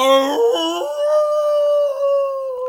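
A single long, wolf-like howl, a hunting call bayed to the night sky, rises from a few short yelping notes into a sustained, wavering tone that holds steadily for a couple of seconds, loud with no other sounds.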